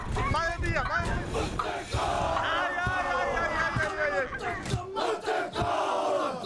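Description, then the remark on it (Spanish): A group of voices shouts loudly and continuously during a Maori welcome ritual at the entrance of Te Pauia village, site of the largest Maori temple, cries rising and falling in pitch, with a few sharp thuds cutting through toward the end. “estamos con gritos.”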